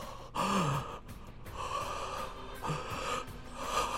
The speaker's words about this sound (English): See how in control my breathing is?